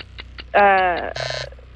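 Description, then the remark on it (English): A loud, harsh game-show buzzer blares for about a second in a quiz, signalling that time is up, starting with a bright harmonic tone and ending in a raspier burst, with faint voices in the background. “Okay, that was after the buzzer.”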